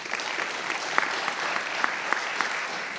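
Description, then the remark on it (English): A crowd applauds steadily for about three seconds, a dense, even patter of many hands clapping with a few sharper individual claps standing out, and no one speaking over it, celebrating the planting of four African-American churches across the state. “We hit 4 African-American plants across our country, or across our state, and we can clap for that if you would like to.”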